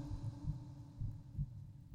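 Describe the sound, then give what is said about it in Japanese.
A steady, muffled human heartbeat thumps low, with soft paired beats repeating about every half second over a faint hum, no voices present. “わかるでしょ？私の心臓の鼓動、私もさっきから聞こえてるよ。”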